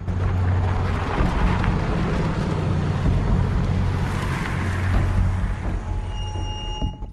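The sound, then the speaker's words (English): A car drives slowly through deserted streets, its low engine rumble and road noise steady throughout, with a few faint high electronic tones near the end and no talking. “zooms off in his car. He drives slowly through the deserted streets and parks in the road lined with other vehicles”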